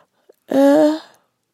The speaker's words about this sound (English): Gosh, I can't stop yawning.